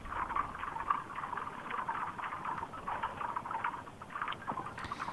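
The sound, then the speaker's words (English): Ice forming on a lake in Maine in winter crackles steadily: a dense, continuous stream of fine ticks and snaps in a mid-to-high register, at a fairly even, moderate level with no voices. “we're listening to the crackle of ice forming on a lake in Maine.”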